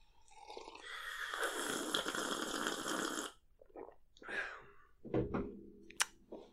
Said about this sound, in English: Just gonna take a sip of coffee. We're just going to take a real quick hiatus from here from the Books Are Boring podcast to have a sip of coffee.